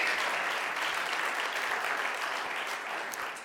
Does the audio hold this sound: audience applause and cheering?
yes